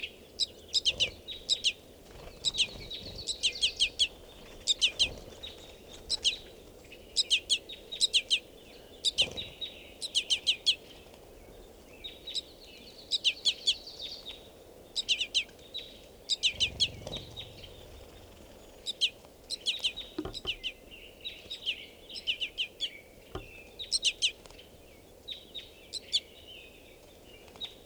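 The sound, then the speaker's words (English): Insistent, high-pitched begging calls from a crossbill fledgling begging from a silent male crossbill, repeated in quick irregular bursts for nearly half a minute, with a soft outdoor background hiss and occasional low rustles. “Additionally, there's a baby begging from a male directly here. And the male's not calling, but the baby's begging.”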